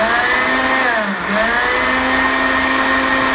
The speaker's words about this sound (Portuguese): Só tem que ser uma manga bem madura, bem madura. E eu vou colocar aqui no liquidificador sem água, sem nada. Dá um pouquinho de trabalho para bater até começar, mas depois ela forma um creme lindo.